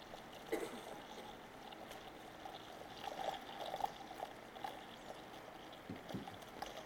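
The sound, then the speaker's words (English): Water pours steadily into a container holding a teaspoon of baby diaper polymer for several seconds, a continuous splashing gurgle with small bubbly surges and no voices. “So I could go and pour much more of this in there, but I think you've gotten the idea there that this is a very, very interesting molecule.”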